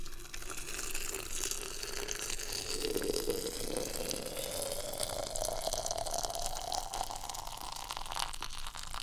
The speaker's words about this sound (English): Let's do the old one-handed pour here. Water into the tea.